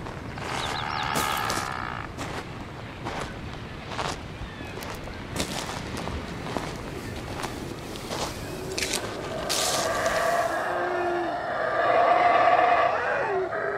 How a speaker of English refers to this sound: Coming from the forest? Yeah, it seemed to be. Yeah, that sort of howling, roaring sound. They're howler monkeys. They're black howler monkeys.